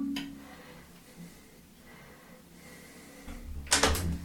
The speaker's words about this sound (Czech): Slyšel jsem dveře?